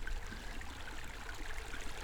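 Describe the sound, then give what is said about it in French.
A mountain stream flows steadily, its continuous rushing and babbling water filling the scene at a moderate, even level with no voices. “Le bruit de l'eau, bien sûr, les cascades.”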